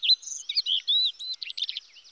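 A rapid string of thin, high-pitched chirps and squeaky twitters from a hummingbird, fairly clear, chattering continuously for about two seconds with no voices.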